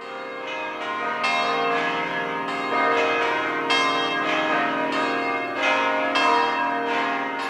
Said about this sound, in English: As Italians prepare to celebrate Easter, the church bells fall silent all through Good Friday and Saturday prior to Easter Sunday. But at around 11 p.m. on Saturday night, the bells begin to peal, making a beautiful cacophony of music